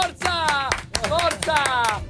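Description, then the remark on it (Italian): An audience at a radio show applauds after a father-and-son rap and beatbox performance, a quick, irregular patter of claps lasting a couple of seconds, with voices calling out and whooping over the clapping at a steady, moderate loudness. “Mamma mia ragazzi, un grande applauso.”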